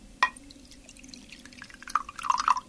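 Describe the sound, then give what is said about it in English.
A glass clinks once, then after a quiet pause a solution of bicarbonate of soda in water trickles and splashes into a glass in short bubbly bursts, with no talking. “I swirl that round a bit and tip that into the glass.”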